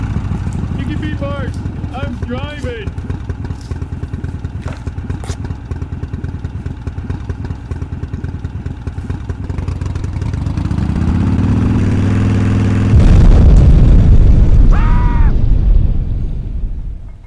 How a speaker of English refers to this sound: Revved your engine and it exploded.